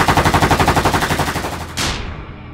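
A rapid burst of automatic gunfire, around twenty shots in a steady fast rhythm, loud, ending with a sharp final crack that rings out and fades, marking the first shooting in the Karuna affair on 24 March 2004 in Batticaloa, Sri Lanka.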